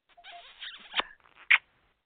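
A caller blows a quick flurry of squeaky, smacking kisses over the phone, slightly thin and tinny as if over a phone line, ending in one sharp, louder smack before silence.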